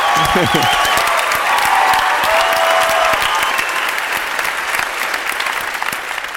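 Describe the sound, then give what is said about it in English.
An audience at a question-and-answer session applauds steadily, with dense, fast clapping that stays loud throughout and thins slightly toward the end, with a few faint voices and cheers mixed in. “They're clapping for you, not us.”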